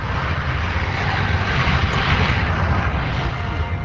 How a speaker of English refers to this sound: Squadrons of MiGs roared in over the Zhukovsky airfield. A bilingual announcer competed with the thunder overhead to tout the jet's amazing speed and maneuverability.